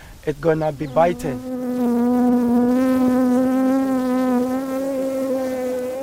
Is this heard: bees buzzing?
yes